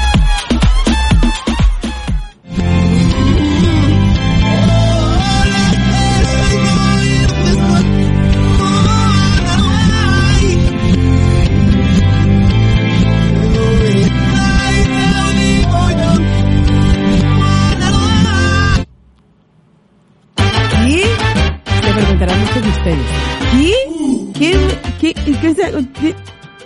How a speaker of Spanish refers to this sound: Y en este viernes de semana, la canción al revés suena así.